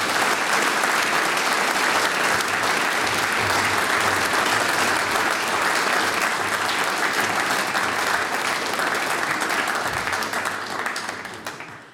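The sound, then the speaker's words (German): Sustained, dense applause from a large audience for Mayor Wolfgang Goma of the market town of St. Peter-Freienstein fills the whole stretch, steady and loud before tapering slightly at the very end, with no voices standing out. “Das ist ein Applaus, Bürgermeister Wolfgang Goma.”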